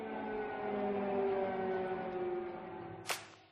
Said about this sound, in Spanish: con el sonido de fondo de estas sirenas te vamos a contar una historia.